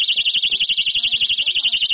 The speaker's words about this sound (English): The alarm sound is activated when the wearer pulls a safety pin, but can only be heard within a range of about 100 meters.